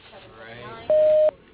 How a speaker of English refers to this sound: After the tone, please leave your name, number, and a brief message, and he'll return your call as soon as possible.